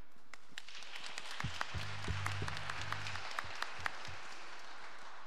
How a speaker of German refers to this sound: Also auch Applaus an euch, dass ihr so zahlreich heute da seid.